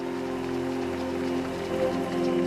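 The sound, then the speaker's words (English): An audience in a stadium claps steadily for a couple of seconds, giving the Lord a hand clap at the closing session of a convention: a dense, even wash of hand claps with sustained low tones humming beneath and no talking. “Give the Lord a great hand clap and you can be seated.”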